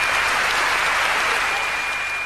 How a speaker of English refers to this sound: And there's a loud applause and cheering from the audience as they're able to give their points for the contest. And it's such a beautiful moment.